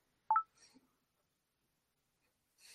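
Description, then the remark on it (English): A single quick two-tone electronic chirp from a device notification, sharp, followed by near silence with a few faint rustling sounds. “I didn't recognize that notification sound.”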